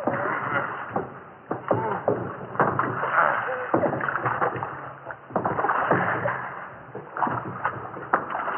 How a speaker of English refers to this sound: Yeah, and lay on those oars, you two.